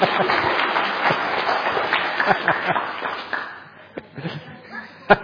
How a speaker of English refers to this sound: And a big round of applause for my sister. Thank you.